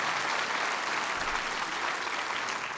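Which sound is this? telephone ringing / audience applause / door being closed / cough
audience applause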